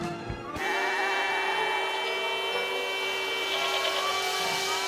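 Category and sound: animal, goat bleating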